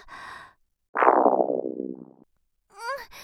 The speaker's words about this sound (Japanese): うん、お腹キュルルって言った。